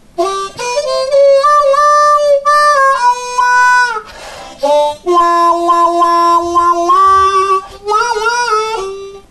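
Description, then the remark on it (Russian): A harmonica plays a short phrase of sustained and bending notes, its tone opening and closing by hand into a quacking wah-wah effect. Loud and continuous, with no talking. “И это называется эффектом вавва.”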